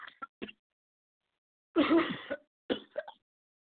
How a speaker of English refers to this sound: Oh, Lord, my throat has begun to itch. If it's not one thing, It's another. Excuse me, sheep. I got the cough.